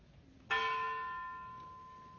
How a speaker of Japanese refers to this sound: 後方に鐘がございます。広島、長崎の被爆者が負わされた重荷を主が共に担ってくださり、世界で被爆者が二度と生み出されないようにと祈りつつ鐘をつきます。